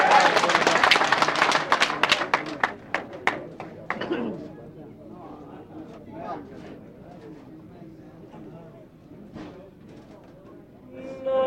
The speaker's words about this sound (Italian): Un applauso, grazie.